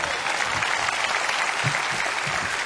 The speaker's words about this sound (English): Big round of applause right there.